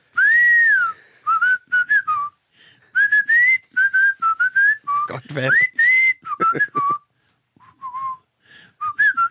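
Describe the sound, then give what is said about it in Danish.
A person whistles a lively, wavering melody in short phrases with brief gaps, the pitch sliding up and down; a couple of spoken words break in partway through. “du er blevet rost meget på sociale medier for din fløjte-solo sidst”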